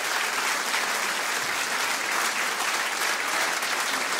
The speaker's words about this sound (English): Thank you so much. Let's keep the clapping going because it's a long, lonely walk.